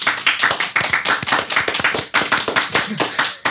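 A live audience applauding, dense overlapping claps rolling steadily for a few seconds, loud, with no voices rising above it.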